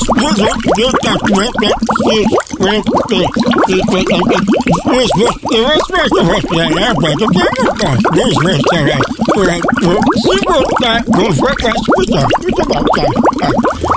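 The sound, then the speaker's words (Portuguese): A Brazilian radio presenter talks or shouts with his head inside a bucket full of water, producing continuous loud gurgling and bubbling for the whole stretch, muffled and wobbly, with no pauses. “Esse é o único apresentador do rádio brasileiro no mundo que apresenta um programa com a cabeça dentro de um balde cheio de água.”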